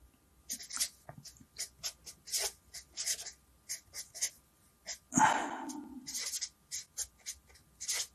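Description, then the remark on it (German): A pen scratches across paper in quick, irregular strokes, fairly quiet, with one louder breathy rustle partway through before the writing resumes; a different pen has been taken up. “da nehme ich am besten einen anderen Stift, das ist jetzt die Information.”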